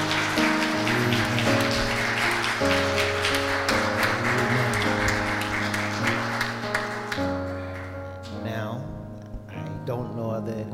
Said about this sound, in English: We thank our young folk. Amen, amen. Can we give them a hand clap of praise? Amen.